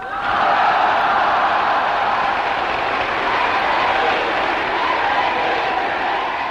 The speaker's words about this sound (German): Niemand heute wird den Westberlinern ihren Jubel übel nehmen. Ein Lob der Freiheit angesichts weltweiter kommunistischer Unterdrückung, ein solches Lob hat Beifall verdient.